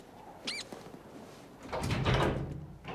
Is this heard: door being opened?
yes